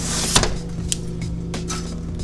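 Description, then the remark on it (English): A window is pushed shut with a solid thud, followed by a few sharp clicks and a brief scraping slide, all over a steady low hum. No one speaks. “Okay, let's just close the window again.”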